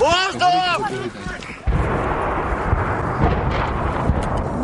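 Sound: artillery shells exploding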